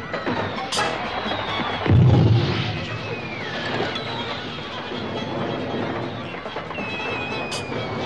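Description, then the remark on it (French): All of Snoop's fireworks rockets are set off at once in a living room, whistling and bursting in a busy, crackling barrage, with one deep, heavy boom early on and sharp high pops scattered through the continuous din. “Bernard et Bianca firent partir toutes les fusées de Snoop dans le salon. Ce fut un extraordinaire feu d'artifice.”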